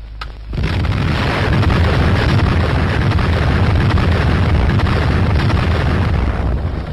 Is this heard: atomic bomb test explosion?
yes